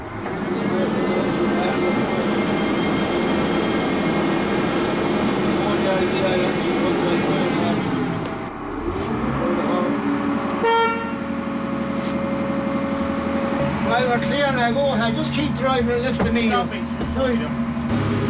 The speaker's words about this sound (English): The lifeboat is launched every time from the beach. During a practice launch, I went on board the tractor, bringing the lifeboat into the waves.